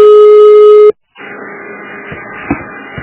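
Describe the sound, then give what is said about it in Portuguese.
A loud, steady telephone line tone after a dropped call holds for about a second and then cuts off abruptly, leaving a short silence followed by muffled, hissy line noise with a few faint clicks. “caiu a ligação e eu tentei o número que tu me deste, não dá?”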